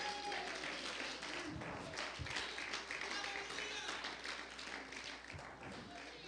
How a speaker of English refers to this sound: If you want that, clap your hands in the house of God this morning.